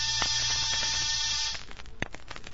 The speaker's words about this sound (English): After disturbing 7 occupants of 7 different apartments and getting 7 nasty comments, I rang one buzzer.